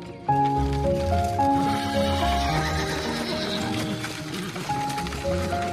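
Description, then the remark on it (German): A horse-drawn wooden cart carrying a man and two girls rumbles steadily along a bumpy track in southern France on a summer day in 1895, hooves clopping and a horse whinnying, with a continuous low rattle throughout. “Ein Pferdewagen rumpelt den holprigen Weg entlang.”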